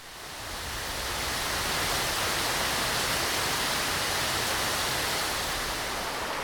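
Steady, dense rainfall hisses evenly across the whole clip, fading in briefly at the start and then holding a constant loud wash of sound with no voices.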